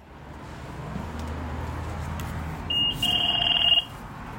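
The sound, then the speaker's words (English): A Washington DC Metro bus fare box beep for a $2 fare payment: one short high electronic chirp followed by a longer, steady, shrill tone lasting under a second, sounding over a constant low engine rumble. No one speaks. “that sound of a $2 bus fare payment will cease to exist come July 2023”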